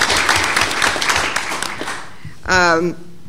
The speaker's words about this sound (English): I think we should all give him a round of applause as he finishes this part of his journey.